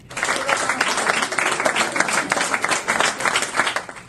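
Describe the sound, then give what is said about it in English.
Friends, family and staff at a medical center applaud warmly and steadily for a released Israeli hostage. Dense overlapping claps form a continuous bright patter that holds at an even, fairly loud level throughout, with faint voices mixed in. “And this one ray of hope, friends, family and staff warmly applauded Israeli hostage”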